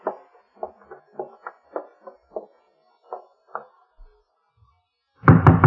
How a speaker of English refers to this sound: Oh, the way you knock gives me the shakes, Nick. So stern and official.